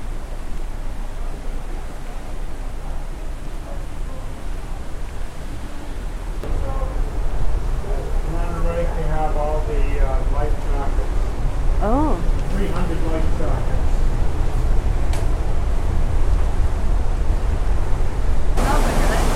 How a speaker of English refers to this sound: It's like we're looking off the stern. Oh. So that's the engine you're hearing. Oh, wow. There are two props. Four. Two. Two props cross-separated. The big rush of noise in the middle is the wash chasing the boat.